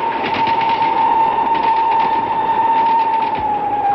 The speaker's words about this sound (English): The other train roared by and vanished into the night.